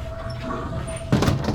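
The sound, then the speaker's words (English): A door swings shut with a solid thud and brief rattle partway through, following a quiet stretch with a faint, steady high whine in the background. “Close the door, please.”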